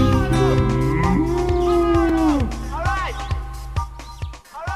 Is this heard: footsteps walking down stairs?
no